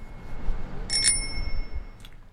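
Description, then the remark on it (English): A bicycle bell rings twice in quick succession near 1 second, its bright metallic tone lingering, then a softer ding follows near the end, over a low rumble of street traffic. “If approved, more bike bells could be ringing down Bloor Street by midsummer.”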